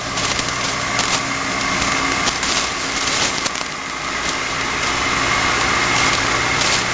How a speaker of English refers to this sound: Yes, I guess I am transmitting about 5 watts of transformer hum and computer fan noise. Over.